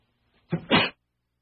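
A single fairly loud sneeze with a quick two-part burst, a short intake followed by a sharp explosive release, standing alone with silence around it.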